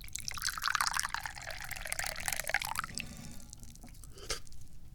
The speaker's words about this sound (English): Oh, I know, I need to drink more tea. Good Lord. Pour the tea.